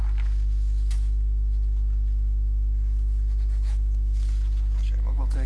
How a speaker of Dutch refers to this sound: Dan mag ik mijn handtekening zetten.